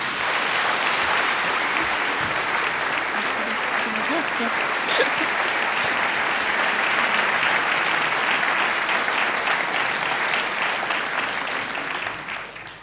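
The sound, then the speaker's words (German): Loud, sustained applause from an audience welcoming cabaret artist Fee Brembeck onto the stage, a dense steady clatter of many hands clapping for about twelve seconds before it begins to taper off at the end. “Mit großem Applaus auf die Bühne, Fee Brembeck, bitte schön.”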